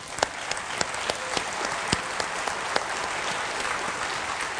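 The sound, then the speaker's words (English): An audience at New Hope church applauds steadily, a dense wash of many hands clapping at an even level, with a few sharper individual claps standing out throughout. No one speaks over it. “I applaud you.”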